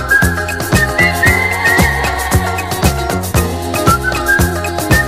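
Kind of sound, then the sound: human whistling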